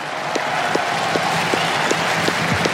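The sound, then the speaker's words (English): A large tennis stadium crowd, asked by Fabrice Santoro, applauds Juan Carlos Ferrero, coach of Carlos Alcaraz and winner of this title 20 years ago, in a dense, steady roar of clapping with a regular rhythmic beat about three times a second running through it. No one speaks. “Fabrice Santoro just asking the crowd to applaud Juan Carlos Ferrero, coach of Carlos Alcaraz, who won this title 20 years ago.”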